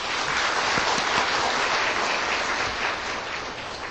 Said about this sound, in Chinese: 现在我们鼓掌欢迎她。